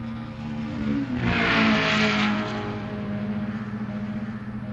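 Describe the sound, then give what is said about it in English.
A car engine hums, then revs up loudly in a rising roar before settling into a steady drone as the vehicle pulls away. No one speaks. “Let's go see how Slippy's doing on my car.”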